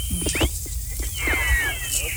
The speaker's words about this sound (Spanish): Qué buen chiflido, amerita una buena canción.